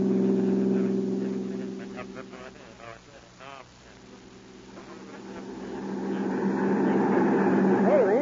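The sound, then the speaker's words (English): A car engine drones steadily as it races along a road running right alongside a train track. It eases off briefly while muffled voices come through, then revs up louder and higher toward the end as the driver gives it gas, continuous. “The road runs right alongside the track for about 5 miles. We'll give her the gas.”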